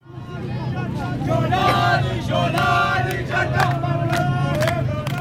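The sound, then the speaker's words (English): A large crowd of thousands gathered in Tadamon, a poor district of Damascus, Syria, shouts and clamours together, a dense, steady roar of many voices with raised cries rising above the babble throughout, loud and unbroken. “Earlier in the day, our international editor Jeremy Bowen sent this report from Damascus as a crowd gathered in one part of the city.”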